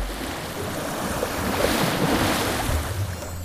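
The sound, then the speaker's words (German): Steady ocean surf washes and rushes on a sunny day, swelling a little louder midway, with a breezy hiss over the water and no voices. “Die Sonne macht das Meer so hell und türkis.”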